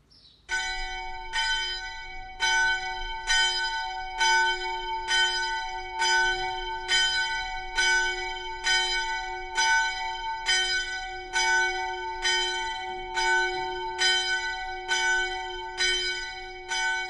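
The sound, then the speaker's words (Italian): A church bell tolls steadily, about sixteen strikes roughly one second apart, each ringing note overlapping the next with a rich, resonant hum; no voices, loud. The bell rings as a community of nuns gathers for obedience to the new prioress. “Mentre suona la campana, la comunità si raduna per l'obbedienza alla nuova priora, che è la signora Lidoine, suor Maria Teresa di Sant'Agostino.”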